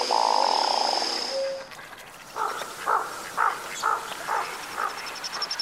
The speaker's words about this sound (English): When they're courting, they throw their head back and they make that patch into a big white fan and make this really weird noise in their throat. Would you consider that noise frog-like? I hadn't thought of it, but yeah.